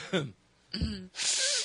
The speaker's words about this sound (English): Oh, hold on, I'm blowing my nose.